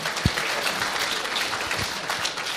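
An audience applauds a player who played for Team Norway in the World Juniors, a steady, dense wash of many hands clapping at once, fairly loud and continuous for a few seconds with no voices over it.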